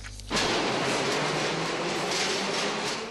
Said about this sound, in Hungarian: Kattog és csattog a 3-as metró kereke, döcög a síneken. Itt pedig megáll a metró, aztán újra elindul, de csak lépésben. Megrepettek ugyanis a sínek, ezért lelassítanak a metróvezetők.